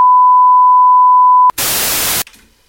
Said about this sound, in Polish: Do deka, konkretnie wysokiego modelu Pioniera, wrzuciłem właśnie pustą taśmę. Nagram tutaj sygnał testowy 1000 Hz oraz szum biały.